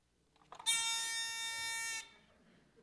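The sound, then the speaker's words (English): A handheld novelty buzzer, used as a 'bad doctrine buzzer', gives one loud, harsh, steady-pitched buzz lasting just over a second, rich in bright overtones, then cuts off abruptly, with only faint background noise around it. “If you're not familiar with my little friend, my bad doctrine buzzer, this is my bad doctrine buzzer.”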